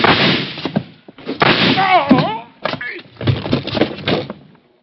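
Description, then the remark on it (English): Several loud, harsh bursts of gunfire in a shootout tumble together with crashing noise as a lamp is knocked off a table. The bursts are separated by brief gaps, and a wavering cry rises in the middle of the commotion. One man is shot in the side. “Across the room, sitting on the floor, was Carson staring stupidly down at the red bullet hole in his side.”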